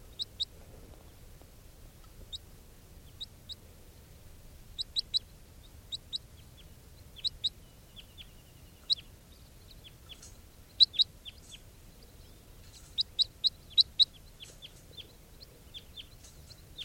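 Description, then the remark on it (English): A captive juvenile crossbill, bird 431, gives short, sharp, high chip calls, singly and in quick pairs or clusters at irregular intervals, over a steady low rumble. No one speaks. “That juvenile who recorded pre-capture will be bird 431. And this is 431 in captivity.”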